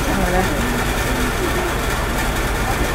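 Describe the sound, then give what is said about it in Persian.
A broken-down car's rough, sputtering engine grumbles as it is started, with a low, steady rumble throughout, while people's voices murmur faintly underneath. “ماشینش خرابه، غرغر میکنه. وای خدا خیرش بده که خود رو روشن کرد.”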